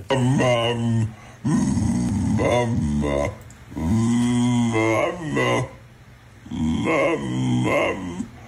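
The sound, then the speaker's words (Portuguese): A dog makes drawn-out, warbling vocalizations that sound almost like it is saying "mama", in three long, loud bursts with brief pauses between them. “Nós queremos que nos digas o que é que este cão está a dizer.”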